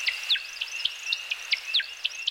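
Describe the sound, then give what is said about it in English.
A male American woodcock, nicknamed the timberdoodle, gives its display call: a rapid, steady series of high liquid chirps and twitters over a thin sustained whistle, clear with no voices. “Let's listen to the Timberdoodle one more time.”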